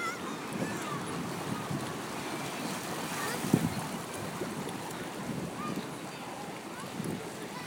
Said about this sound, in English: Well, here we are, so this is coming up. By the sound of it, to the most turbulent bit of all. Rapids as the water surges through a gap and pours down some steps.